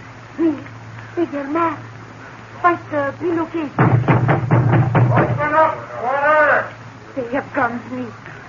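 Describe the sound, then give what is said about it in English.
A rapid series of six or seven loud, heavy knocks pounds on a door in a short urgent burst as someone tries to get inside, with voices speaking before and after it. “Someone wishes to get inside very urgently.”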